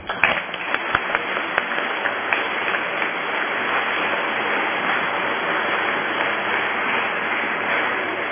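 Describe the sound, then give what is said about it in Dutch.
A crowd gives a final round of applause, a dense wash of many hands clapping at a constant loudness, with a few sharper individual claps standing out at the start. “Mag ik dan nog een laatste applaus?”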